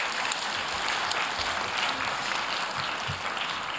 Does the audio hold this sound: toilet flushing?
no